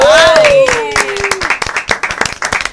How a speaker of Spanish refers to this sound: recibimos también con el aplauso y el cariño a Badir